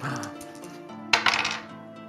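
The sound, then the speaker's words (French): Dice clatter briefly across a hard table surface, a quick burst of clicking rattles midway through, set against a steady low background hum. “Non, ça c'est mes dés.”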